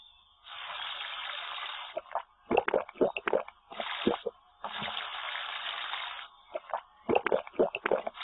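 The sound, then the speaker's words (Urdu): Running tap water pours in steady bursts, alternating with wet swishing and spitting sounds as a mouth is rinsed with water three times, the water taken with the right hand, as part of Islamic ablution (wudu). “Number 5 ہے سیدھے ہاتھ سے 3 مرتبہ کلی کرنا.”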